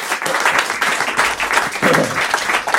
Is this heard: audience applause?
yes